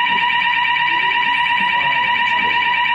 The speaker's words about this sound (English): fire alarm, can we? Sorry guys. Well, there's a fire exit, there's a fire exit. Let's get up everyone.